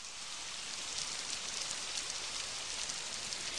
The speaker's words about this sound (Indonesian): Rinai hujan basahi aku, temani sepi yang mengenai.